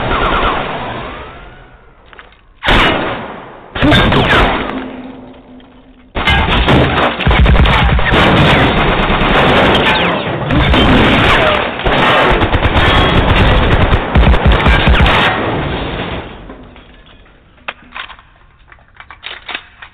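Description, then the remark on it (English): A long, loud barrage of rapid gunfire from a film clip, with a couple of sharp bursts early on before sustained automatic fire rattles on for several seconds, then scattered shots trailing off. “Oh, the melodic sound of gunfire.”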